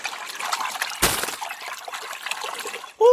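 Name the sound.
sea water splashing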